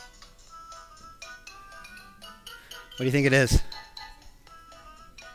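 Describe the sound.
The bouncy Angry Birds mobile game theme plays in bright, plinking electronic notes, swelling into one loud, sustained burst partway through while a person briefly speaks over the music.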